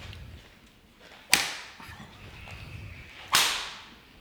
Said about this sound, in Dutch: Het slaan is intussen begonnen. Ze krijgen om de beurt een ferme tik.